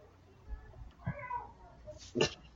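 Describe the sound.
A person imitates a cat, letting out a drawn-out, wavering meow followed by a sharper, louder mew near the end, with faint low rumbling noise underneath.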